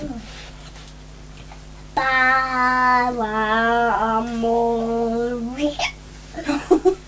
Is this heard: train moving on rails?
no